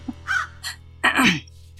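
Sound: crow cawing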